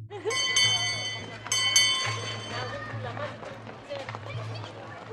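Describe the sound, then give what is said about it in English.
A school bell at a primary school in North London rings loudly in two bursts, its bright metallic tones ringing on and fading, over the noisy chatter and shouts of a crowd of children. “When I came here and I discovered that they still had a school bell, I thought it was remarkable.”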